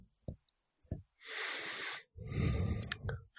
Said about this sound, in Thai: หายใจออกแล้วก็มีหายใจเข้า ก็มีหนึ่งลมหายใจเข้าหนึ่งลมหายใจออก